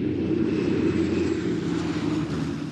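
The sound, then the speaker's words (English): A deep, steady drone of heavy propeller engines from fleets of bomber aircraft (Liberators, Fortresses, Marauders and Mitchells) flying 1,000 feet up, rumbling and throbbing overhead, loud and continuous with no talking. “And soon this grew into a rumble and a throb.”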